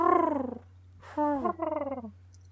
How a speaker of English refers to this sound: The most we get is pigeons hooting about. Just as they do.